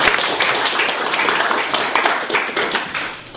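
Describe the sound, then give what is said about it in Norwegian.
An audience applauds a speaker being welcomed at a panel, a dense wash of many hands clapping at once, loud, continuing without pause throughout. “Da må vi klappe deg han også.”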